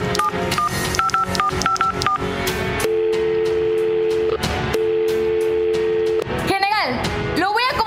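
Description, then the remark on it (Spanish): A secretary dials a telephone to reach a general, with a quick series of short, clear keypad tones, then a steady ringing tone repeating twice, ending in a burst of warbling electronic sound, all over a busy background. “Y rápidamente la secretaria toma el teléfono, obedeciendo la orden.”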